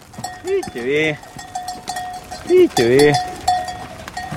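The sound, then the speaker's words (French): A flock of ewes driven along a road by a herding dog, with two loud, wavering bleats over a steady jangle of small bells from the animals around them. “Les brebis, elles obéissent avec le chien, on arrive à les tenir.”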